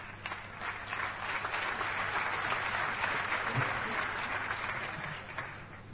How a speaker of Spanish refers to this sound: Damos comienzo entonces con este aplauso a la primera mesa.